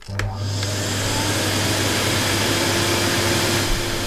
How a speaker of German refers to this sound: So. Ja, noch ein bisschen mehr saugen.